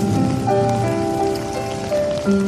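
Steady rain falls in a continuous hiss across the whole stretch, with soft sustained musical tones humming underneath; no one speaks.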